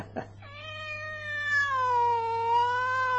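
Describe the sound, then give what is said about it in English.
A cat named Pirate lets out one long, drawn-out meow, its pitch bending and wavering for about three seconds over a faint, steady background hum. “How you doing, pretty kitty? Did you miss me?”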